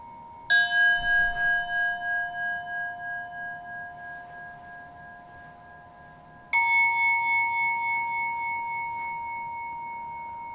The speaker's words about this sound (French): Progressivement, calez votre rythme respiratoire sur les temps de gong sans forcer.